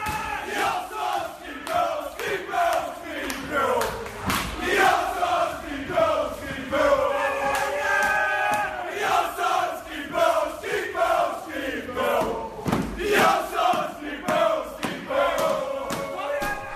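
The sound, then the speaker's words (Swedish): A large crowd of football supporters at a match chants in unison, singing for a player to sign for another year: a loud, rhythmic sung refrain with rising and falling melodic lines, punctuated by occasional sharp thuds and shouts throughout. “Vi skrek om att du skulle signa ett nytt år.”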